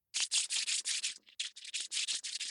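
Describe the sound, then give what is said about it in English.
Hands clapped together rub back and forth fast, a steady run of quick, hissy swishes with a brief pause partway through, each stroke bright and papery, heard alone with no talking. “I clap my hands together and rub them back and forth really fast.”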